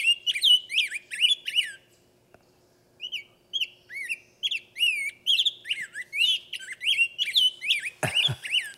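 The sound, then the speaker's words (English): A rose-breasted grosbeak sings a clear, whistled song of rapid rising and falling phrases, loud, pausing briefly midway before continuing, with a short low thump near the end. “I want to hear a rose-breasted grosbeak. Have we got one up there? Another nice, clear whistler, but it's back and forth and back and forth.”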